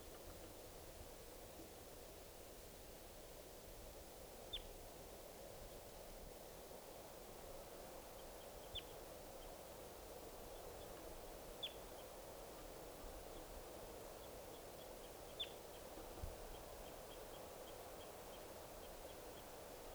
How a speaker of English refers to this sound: And that was 387 there. 387 giving flight calls. Chatter by the wild birds.